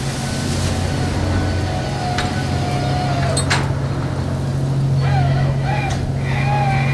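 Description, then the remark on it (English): Fishing boat winches labor steadily under a heavy engine drone, straining to haul up a net holding more than 100 tons of pollock from the deep, with thin whining, creaking tones rising and falling over it and a couple of sharp clanks; continuous and fairly loud. “The Starlight's winches strain under the weight of the fish in the net, more than 100 tons of pollock.”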